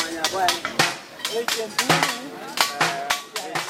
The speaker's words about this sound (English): Just outside of Rumbek, the capital of South Sudan's Lakes State, A song of smashes and clashes and clangs rings out from dusk until dawn. It is the sound of blacksmiths hammering away at old metal shells and turning them into works of art.